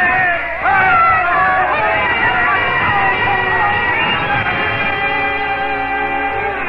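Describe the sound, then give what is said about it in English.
A large crowd at political campaign gatherings cheers and shouts without a break, many voices overlapping in a loud, steady roar with a few higher yells rising above it. “I remember her face during those days as she stood listening to the crowds at the political gatherings.”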